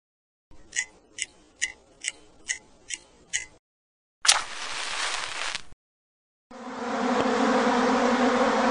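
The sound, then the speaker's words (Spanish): A steady buzzing like a bee or wasp drones on for the last couple of seconds, following a run of evenly spaced ticks and a short crackling burst, with no voices. “Como se dio cuenta, las palabras tic-tac, chispa, zumbido, maullar, gorgoteo y rechinar son palabras onomatopéyicas porque imitan el sonido que producen los objetos y animales que vemos acá.”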